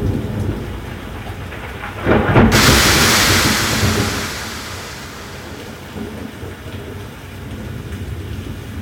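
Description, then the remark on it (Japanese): Steady rain pours throughout as the centre of the rain cloud passes overhead, then a sudden thunderclap cracks loudly from above about two seconds in and rolls into a long rumble that slowly fades back beneath the rain. “頭の上まで雨雲の中心が来たようだ。上から来るぞ、気をつけろ。”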